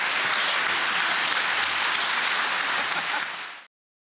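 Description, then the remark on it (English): A crowd bursts into steady, dense applause, many hands clapping together in a bright, even roar that holds loud for several seconds before cutting off abruptly. “Let's give a round of applause for Reggie.”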